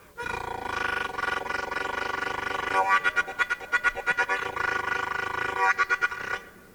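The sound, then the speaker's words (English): An imitation of the engine of Farmer Brown's old pickup truck, driven on a straight road alongside a train track: a steady, buzzy harmonic drone that breaks into rapid rhythmic chugging pulses twice, then cuts off. “It's just a plain ordinary road, just as straight as a string, and on that road driving this old pickup truck was old Farmer Brown.”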